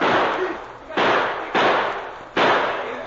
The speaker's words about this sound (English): The sergeant dropped to the ground behind the cover of a rock. Then he started shooting at the waterline of the canoe. The bullets tore gaping holes in the fragile craft. He reloaded and fired again.